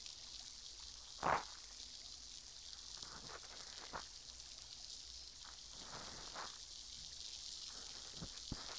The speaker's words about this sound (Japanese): 耳の奥までシュワシュワ音が響いて気持ちいいですか？